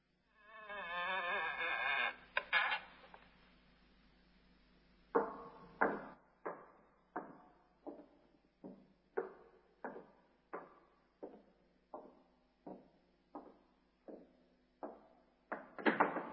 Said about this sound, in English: Well, here's the door. I'll use the skeleton key. Ah, yes, that's it. Now, quietly, my dear fellow.